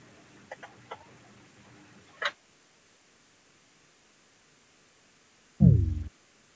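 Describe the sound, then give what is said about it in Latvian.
A few faint clicks and a brief knock, then a quiet pause before a single loud, ringing voting bell sounds for about half a second, clear, called before parliament votes on a bill in its first reading, with no talking. “Lūdzu zvanu.”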